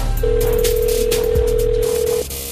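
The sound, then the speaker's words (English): A single steady ringback tone of a phone call to a help line in New Jersey ringing on the line, lasting about two seconds before cutting off, heard clearly over faint background hum with no one speaking. “I'm going to make a phone call real quick, okay?”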